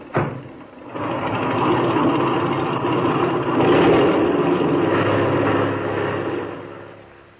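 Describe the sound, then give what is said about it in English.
A small airplane engine roars up to a steady, loud drone, swelling slightly midway as it revs for takeoff, then easing off at the end. No voices are heard. “Now, set your brakes. Open that motor, and when I wave to you from the outside, take her off.”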